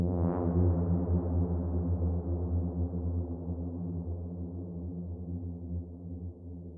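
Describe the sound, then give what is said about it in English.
A low, harmonically rich synth tone drenched in reverb, its sound smearing into a long, washy tail that slowly fades over several seconds, with no one talking. “It simulates a lot of reflections of different surfaces, which create these beautiful tails and give us an impression of space.”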